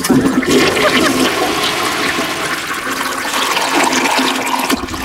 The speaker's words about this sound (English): I thought that was a drum roll. I thought it was a drum roll. That's a loud toilet. That was a very long toilet. Wasn't it? It's swallowing up some heavy stuff. That was a scary toilet.